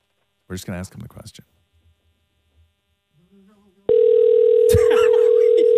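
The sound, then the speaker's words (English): A loud, steady electronic ringing tone of a phone call cuts in partway through and holds continuously to the end, after brief voices talking earlier and a short voice overlapping the tone. “It's ringing.”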